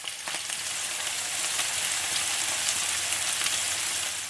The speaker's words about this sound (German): Was ist jetzt also dieses Geräusch? In Wirklichkeit, ja, sind es Kartoffelscheiben und ein paar Nürnberger Rostbratwürste, die fröhlich im Fett einer Pfanne brutzeln.